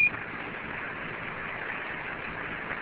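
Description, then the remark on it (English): A single short, high-pitched radio beep right at the start, quickly giving way to a steady, even hiss of static that continues with no voices. “Stand by on that beep.”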